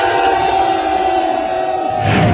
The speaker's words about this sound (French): et là on est 300 à crier un petit peu notre colère